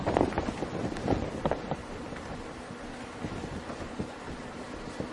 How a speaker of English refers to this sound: She's only breathing at the moment.